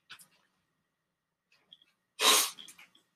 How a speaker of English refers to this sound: Sniffling. Well, winter's over. I got my first cold.